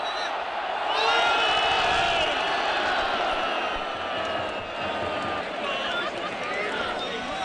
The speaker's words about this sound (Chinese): 无论是哪一队有攻势，现场大批球迷都报以欢呼声，气氛高涨。